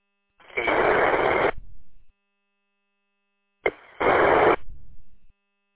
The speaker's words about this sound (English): Well, I heard a station try, and then that static just buried them. I couldn't hear a thing. Can you try that again, please?